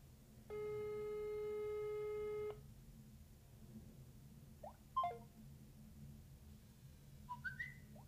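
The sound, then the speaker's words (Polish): Touch-tone telephone tones on a call to the phone menu of the District Prosecutor's Office in Warsaw Mokotów: one steady electronic beep held for about two seconds, followed after a pause by a few brief, fainter blips over a low background hum. “Aby uzyskać połączenie, proszę wybrać tonowo 0 Biuro Podawcze 1 1 DS 2”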